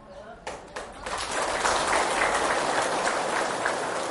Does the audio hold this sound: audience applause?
yes